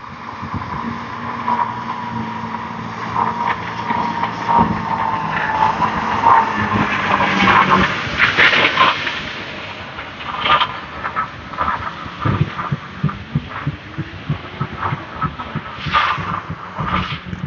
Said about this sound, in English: Oh, here comes a trash. Oh, no, it's not a trash truck. It's a sweeper. I should have known. I saw the sweeper's tracks early on the walk. Let me get out of the way and let him zoom by.